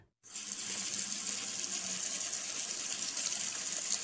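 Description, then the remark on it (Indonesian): A kitchen faucet at the dish-washing sink turns on abruptly and runs steadily into the sink, a continuous hiss and splash of water that holds for several seconds. “Dan gak lama setelah kejadian itu, dia dengar ada suara keran yang menyala dari wastafel dapur tempat nyuci piring.”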